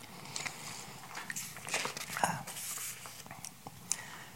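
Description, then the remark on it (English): Someone takes a drink: quiet sips and swallows with small wet mouth clicks and a soft clunk, low in level, with no talking. “You can chew on that for a minute while I take another drink.”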